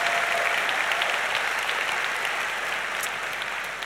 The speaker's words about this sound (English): Well, I don't know what that just was on stage, but I think it deserves some applause. That was stunning. Wow.